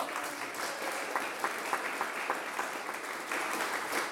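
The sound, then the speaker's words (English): An audience at a Buxton Fringe show hosted by the Green Man Gallery applauds the day's guests steadily for about four seconds, a dense wash of many hands clapping with scattered sharper claps standing out, fairly even in loudness throughout and with no talking over it. “And please give it up for today's guests you saw and heard,”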